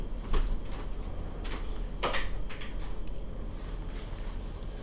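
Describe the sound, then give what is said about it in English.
A door opens with a few soft clicks and scraping rattles, including a brighter burst midway, over a steady low hum with no one speaking. “And I think the door is about to open. Yes, it is.”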